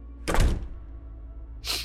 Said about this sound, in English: Afterwards, I stood up and slowly walked to the garage door that led into the house. I turned off the garage light and opened the door and entered the house.